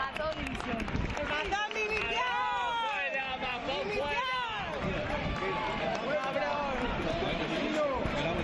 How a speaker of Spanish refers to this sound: Bueno, decíamos que las visitas a las dos localidades afectadas por la Dana de los Reyes han sido tranquilas. Se han escuchado aplausos para ellos, para don Felipe, para doña Leticia, pero también, como escuchábamos ahora, gritos de Mazón, dimisión